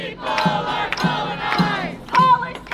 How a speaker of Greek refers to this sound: Οι φοιτητές, όπως μπορείτε να ακούσετε και στα συνθήματα, δεν μασάνε τα λόγια τους και καλούν σε μια παγκόσμια εξέγερση. Μια νέα Ιντιφάντα.